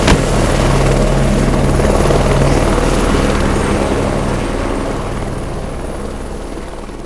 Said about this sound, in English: That must be Kincaid's helicopter taking off. Painted black with a skull and crossbones on the side.